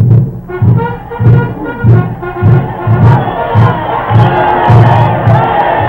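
A large crowd of spectators cheers and shouts wildly for their hero Tamburlaine, voices rising together in loud, rhythmic bursts almost twice a second, like a chanted roar of approval.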